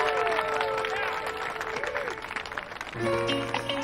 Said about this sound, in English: parents beam as they applaud.